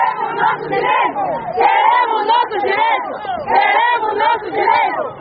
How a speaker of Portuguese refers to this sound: As senhoras lançavam gritos e palavras de ordem à porta da administração municipal.